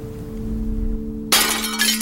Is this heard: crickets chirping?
no